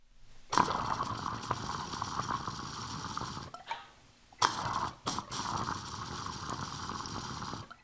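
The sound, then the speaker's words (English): Rough, rapid bubbling and gurgling of water pulled hard through a glass rig while it is smoked, shredding the water into tiny bubbles, fairly loud, in two long bursts separated by a short pause. “I like to rev them, you know, rev up the rig, like shred the water to pieces, make even more tiny bubbles.”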